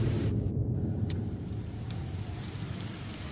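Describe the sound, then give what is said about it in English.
Steady black rain pours down over a city after a bomb blast in a dense, continuous hiss, with a low rumble underneath and a few sharper drip-like ticks now and then. No one speaks. “It's raining.”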